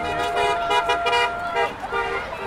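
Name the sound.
car horns honking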